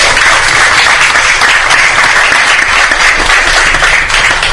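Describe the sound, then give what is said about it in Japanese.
A crowd applauds steadily, dense clapping filling the whole stretch at an even, loud level with no pauses and no voices breaking through. “拍手を送ります。”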